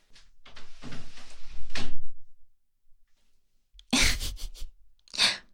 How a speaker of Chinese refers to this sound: 我的好闺蜜，快去开门！你去看看那个外卖员，长得怎么样？